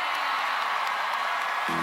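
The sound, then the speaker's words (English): The crowd at the 2013 Country Music Awards cheers as Song of the Year is announced, in a dense, steady roar of voices and whoops, with a low tonal hum entering just before the end. “So, yeah, that's the sound from the Country Music Awards in 2013, yeah.”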